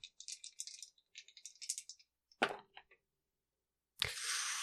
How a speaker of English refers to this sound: As she is watching him walk away, we're going to make a recon roll. 2d6 plus her 3. This is a very difficult check. 12 plus.